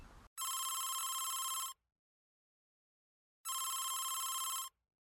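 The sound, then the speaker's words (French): A telephone rings twice as a man calls a hotel in Bordeaux to book a room. Each ring is a loud, buzzy electronic trill lasting over a second, separated by a pause of about two seconds. No one speaks. “Un homme téléphone à l'hôtel Arena Bordeaux pour réserver une chambre.”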